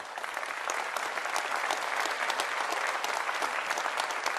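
applause

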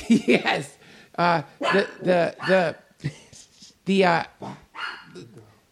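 dog barking and whimpering

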